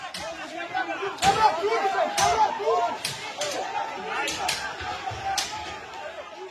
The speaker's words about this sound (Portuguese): Esse áudio que você ouviu é de uma multidão entrando e quebrando estruturas no plenário do Supremo.